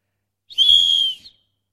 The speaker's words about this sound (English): One, two, three. A whistle.